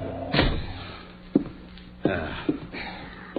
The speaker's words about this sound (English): Kick the door shut.